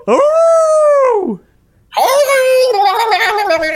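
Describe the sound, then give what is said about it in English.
A voice imitates a wolf howl twice, loud: first a smooth, arching wail, then after a short pause a harsher, buzzy, warbling howl that sounds oddly electronic. “It sounded like it's a cross between a wolf howl and a dial-up modem.”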